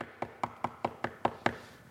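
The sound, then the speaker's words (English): Seven quick, evenly spaced knocks rap out in a steady rhythm, firm, each with a short hollow ring, then stop, leaving a brief quiet tail with no voices. “That little word, importunity, there is our little word for continual knocking.”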